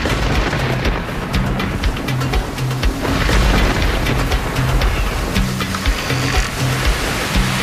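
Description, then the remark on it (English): Steady rain pours down continuously in the mountains, with crisp scattered droplet hits over a dense wash of noise and a low, rolling rumble of thunder underneath. No one speaks. “Rainy day.”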